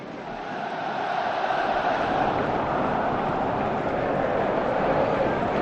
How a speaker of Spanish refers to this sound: Hay más de 5.000 vigueses reunidos por todo el estadio, pero concentrados en esa grada, arrodillados ahora cantando unos enfrente del otro. Vamos a ver si subimos el volumen y escuchamos esos gritos ahora desde allí del fondo.